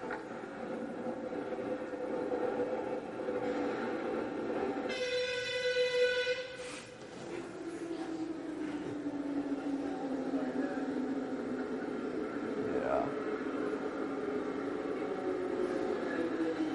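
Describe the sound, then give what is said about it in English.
A metro train roars steadily through a tunnel, a dense rumbling rush that fills the whole clip, broken by one brief tonal horn blast partway through. “So this was their metro system, and I wish I had a better video to show you, but these, actually, if you watch Tucker Carlson's video when he went to Russia, they have basically the exact same metro system.”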